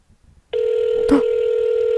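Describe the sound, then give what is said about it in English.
A steady telephone ringing tone starts abruptly after a short quiet pause and holds loud and continuous, a buzzy electronic purr coming through a phone line. “That's a good ring.”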